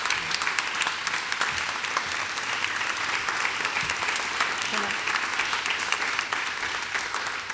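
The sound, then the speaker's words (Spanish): An audience claps steadily for several seconds, a dense, even patter of many hands with no pauses, sustained at a fairly strong level throughout. “Yo propondría a los oyentes y a ustedes un aplauso, cosa de que esto ocurra realmente, porque la confirmación va a venir, ¿eh?”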